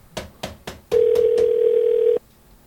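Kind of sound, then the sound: signal or alarm, telephone dial tone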